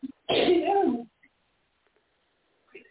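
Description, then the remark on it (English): A single loud sneeze with a voiced, drawn-out burst lasting under a second, followed by near silence and a faint murmur at the very end. “Bless you.”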